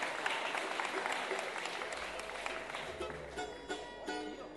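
A crowd claps steadily for several seconds, a dense, bright patter of many hands, with a few voices and whoops rising faintly under it toward the end.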